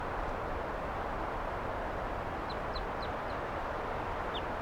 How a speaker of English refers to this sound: Wild bird. And the birds, some of the wild ones came right here and wanted to perch on the microphone.